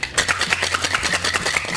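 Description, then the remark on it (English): A cocktail shaker full of ice is shaken hard while mixing a vanilla and ginger cold brew espresso martini with London Dry Gin, King's Ginger Liqueur, vanilla syrup and cold brew espresso concentrate, giving a rapid, steady rattle of bright, gritty clatters at an even rhythm, fairly loud and with no voices. “We're going to add ice to the glass, and then we're going to shake it vigorously.”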